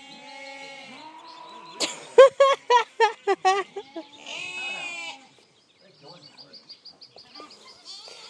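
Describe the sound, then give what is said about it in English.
A sheep bleats loudly in a rapid run of six or seven wavering pulses, followed by a softer call and quieter, fainter bleats trailing off in the background. “Just a last look at the sheep.”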